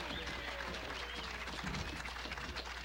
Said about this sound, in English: Keep clapping till they bring them pretty girls out, too. Have them bring the whole family out.